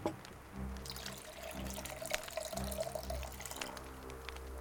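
Water pours steadily for several seconds, a continuous splashing trickle with a low gurgling undertone that rises and falls slightly as the stream continues, with no voices.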